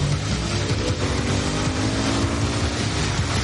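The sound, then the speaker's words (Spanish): A motorcycle engine roars loudly, a continuous throaty rumble with a broad rushing noise over it as the bike accelerates, towing a person who skates behind holding onto a rope. No one speaks. “para su moto junto a Hartley. ¿Quieres que te lleve? Le lanza una cuerda. Acelera.”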